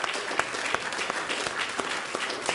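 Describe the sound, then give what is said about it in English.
A church audience applauding on a Sunday morning, giving a hand clap of praise to the Lord: dense overlapping hand claps forming a steady, sustained wash of clapping at moderate loudness with no voices standing out. “Let's just give the Lord a hand clap of praise this morning.”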